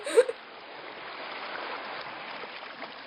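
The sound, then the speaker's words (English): Steady, soft wash of water ambience around a moored canal boat in Little Venice, an even hiss with no voices, opened by a brief faint knock near the start. “we are recording on the boat pod in Little Venice.”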